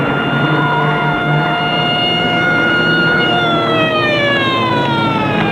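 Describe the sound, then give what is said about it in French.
A loud police car siren wails continuously during a chase, its harmonic tones sliding downward near the end as if the car passes by, over a steady rumble of engine and road noise. “La voiture de police continue à les poursuivre.”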